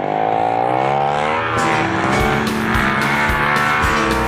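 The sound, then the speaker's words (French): A snowmobile engine revs loudly and continuously, its droning pitch climbing and wavering, with sharp bursts of throttle pulsing through the second half. “Y a rien pour l'hiver, ah ah ah ah ah, en motoneige.”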